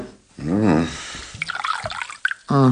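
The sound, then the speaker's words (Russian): Water is poured into a glass for drinking, a short burst of splashing and trickling between brief voiced sounds at the start and end. “Ну, дайте-ка стакан воды. Для начала я тут выпью.”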